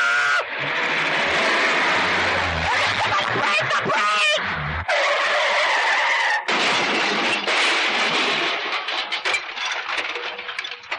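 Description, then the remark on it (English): A car engine surges as a learner driver steps on the accelerator and the car lurches ahead, then loud, sustained crashing and clattering of metal and debris fills several seconds, broken by a couple of brief gaps; the car's left front headlight is demolished. “Oh, you totally demolished the left front headlight.”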